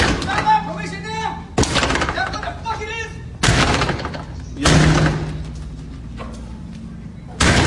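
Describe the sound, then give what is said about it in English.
A man bangs heavily and violently on a door, about to break it: four or five loud booming impacts at irregular intervals, with people talking in the background between the blows. “He's going erratic. He's about to break the door. I don't know if you hear that.”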